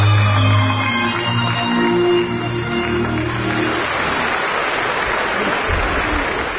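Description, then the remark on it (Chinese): A large crowd stands and applauds loudly and steadily in the banquet hall of the Macao East Asian Games Dome, Macao, welcoming Xi Jinping and Peng Liyuan: a dense continuous clapping roar. Sustained tonal notes sound beneath it for the first few seconds before the clapping carries on alone. “澳门东亚运动会体育馆宴会厅内气氛喜庆热烈，18时许，习近平和夫人彭丽媛在澳门特别行政区行政长官贺一诚和夫人郑素珍陪同下步入大厅，全场起立鼓掌欢迎。”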